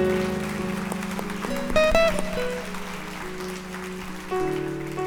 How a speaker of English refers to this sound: Yeah, let's give a hand clap for those who prayed that prayer.